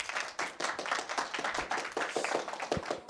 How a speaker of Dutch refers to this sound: En daarom hebben we hier 4 experts bij ons aan tafel. Ik zou graag alvast een groot applaus willen voor onze experts